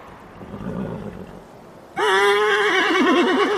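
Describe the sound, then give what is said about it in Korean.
Soft, low shuffling noise gives way to a sudden loud whinny from a horse that has been chewing frozen tree bark and resists as a lieutenant colonel yanks its reins, a bright, high cry with a rapidly quavering pitch that carries on to the end. “꽁꽁한 나무 껍질을 환장하며 씹어대던 말은 그 비참한 먹이에서 떨어지지 않으려고 거세게 저항했다.”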